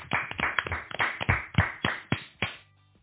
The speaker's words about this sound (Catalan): Aplaudiments!